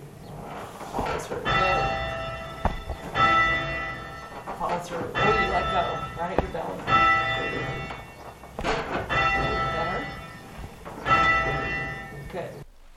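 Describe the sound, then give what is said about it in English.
A large church bell, rung by rope during practice, sounds repeatedly in a steady, swinging rhythm. Each loud, resonant strike rings out with rich lingering overtones, with faint thuds and creaks between strokes. “So here's a bit of my practice ringing the bell.”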